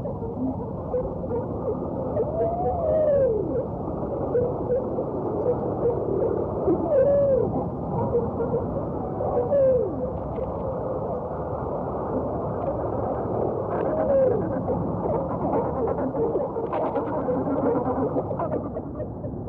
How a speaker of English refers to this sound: The fish world has always been considered a silent habitat. But now, thanks to remarkable advances in marine technology, we can use instruments such as our sonar hydrophones to actually hear the fish talk.